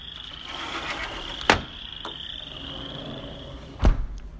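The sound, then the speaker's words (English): A steady chorus of frogs trills and croaks continuously in the background, moderately loud, with two sharp knocking thumps breaking in partway through. No one speaks. “But it's something we look forward to every year, is the frogs.”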